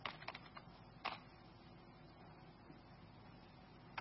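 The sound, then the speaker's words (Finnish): A handful of sharp, isolated keyboard key clicks as text is typed into a running program's console input, a quick cluster at the start, one more a second later, then a final press of the return key after a long pause, all faint. “Eli nyt se odottaa niin kauan aikaa, kun mä tuohon naputtelen jotakin ja painan returnia.”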